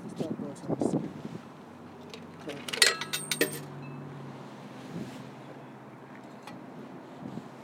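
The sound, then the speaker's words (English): Outdoor wind rumbles and buffets steadily against the microphone throughout, with a few sharp metallic clinks in the middle and some faint voices in the background. “It's windy, and then it wasn't this windy back at the hotel.”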